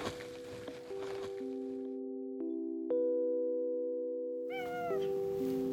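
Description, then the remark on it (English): A cat gives one short, clear meow near the end, over steady sustained musical tones that ring through the whole clip, with no talking. “Something that makes me happy is every time I feed my cats, I like to sing them a little song.”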